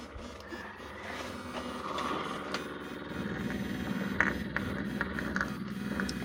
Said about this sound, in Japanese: じゃあ今エッチな音が鳴ってるバイブの方を聞いてもらうね。